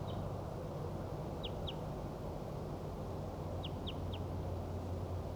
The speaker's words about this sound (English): The wild bird is still calling from 30 meters south down the hollow.